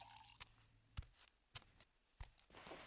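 A young woman drinks a glass of water: four soft, wet gulping swallows spaced roughly half a second apart, quiet and unhurried, with no talking.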